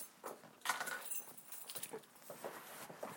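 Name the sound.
keys jangling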